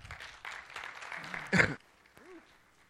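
A church audience applauds a singer in a dense, steady burst of clapping for about a second and a half, swelling briefly before cutting off, followed by a short murmured voice.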